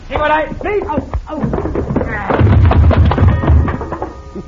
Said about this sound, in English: Madam, Cisco, you hit that coyote so hard, he bang up against the wall and knocked the clock down.